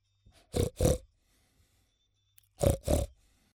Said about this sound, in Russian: Тут поросят семья, и мама их свинья. Свинье я улыбнусь, со свинкой подружусь.